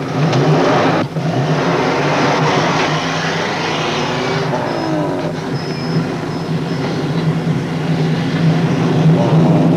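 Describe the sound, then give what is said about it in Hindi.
A heavy truck engine roars loudly and steadily, its pitch rising and shifting as it revs and pulls away on a delivery run, a continuous rumble with no one speaking. “वैसे तुम्हारी मदद के लिए मैंने एक और वर्कर ट्रक में बिठा दिया है।”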